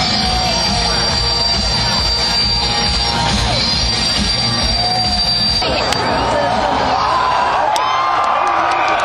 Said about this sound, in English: They're showing close-up of the crowd and everything. People are just going nuts right now.